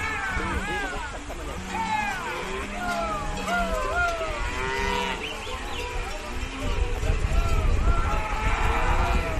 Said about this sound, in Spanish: Bueno, las imágenes de verdad son impresionantes, se ven las vacas cómo van cruzando. Hay un momento que parece que claro, ellas tienen que buscarse la vida para que la corriente no se las lleve.